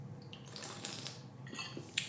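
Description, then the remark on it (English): Quiet sloshing and gulping as someone takes a swig of water, with soft wet swallowing sounds and a small sharp click near the end. No talking. “All right, I'm taking a swig of water.”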